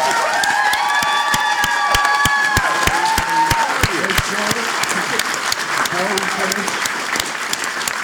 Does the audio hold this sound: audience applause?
yes